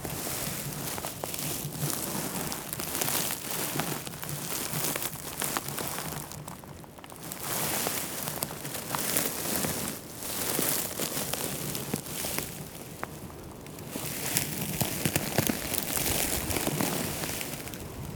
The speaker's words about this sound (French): Ce bruit croustillant du gispette complètement sec et desséché.